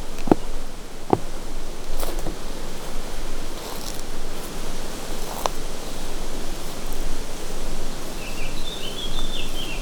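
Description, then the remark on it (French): Steady wind rustles through tree foliage beside a lake in a continuous, airy hiss that swells and eases gently, with a few faint, brief chirps or clicks scattered on top. “Le vent bruisse.”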